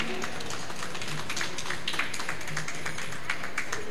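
A crowd applauds steadily, many hands clapping in a dense, crackling wash that holds at an even, moderate level for a few seconds without voices.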